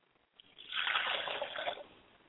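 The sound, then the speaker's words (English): Water is poured into a glass as a libation in one steady stream lasting about a second, fairly soft, with a gentle splashing hiss that tapers off. No one speaks. “Ladies and gentlemen, I set a glass of water for my father's spirit, and I say, Ashe.”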